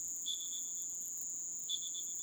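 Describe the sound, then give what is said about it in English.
An Anurogryllus celerinictus cricket, a particularly noisy native species, chirps in two short bursts of rapid, high-pitched pulses, separated by a pause, over a steady insect drone and quiet outdoor background. “of physicists and scientists advising the United States government, analyzed the audio recordings and concluded that the sounds were most likely caused by an Urogrillus celerinictus, that is, a native species of crickets that are particularly noisy.”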